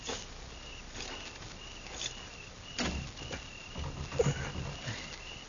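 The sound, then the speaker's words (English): A door handle is tried against a bolted door, giving several sharp rattles and clunks spread over a few seconds, fairly quiet, with no talking. “I'm going to try the door.”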